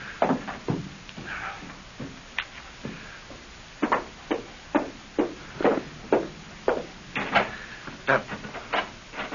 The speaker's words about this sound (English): The darn thing's stuck. What's the matter? The door to the porch is stuck. I can't get out. Is it locked? Oh, I don't think so, no.